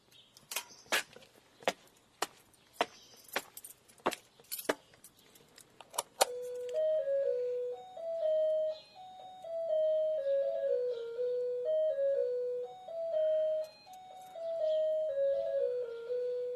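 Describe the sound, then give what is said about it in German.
The doorbell of a semi-detached house in a small town in Saxony-Anhalt, Germany, plays a bright, catchy tune of clear stepping tones that repeat for several seconds. It is one of a repertoire of songs. Sharp jangling, clicking hits come first, like keys or a door handle being worked. “Das wohl schlimmste Geräusch hier ist die Klingel.”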